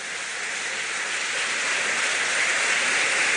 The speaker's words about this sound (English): Let's have a big round of applause for our first year letter winners.